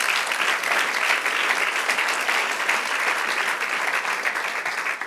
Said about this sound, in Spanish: Amén. Aleluya. Dale el aplauso.